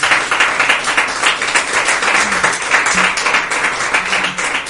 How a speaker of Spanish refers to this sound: Denle ofrenda de palmas al Señor, pues, por favor.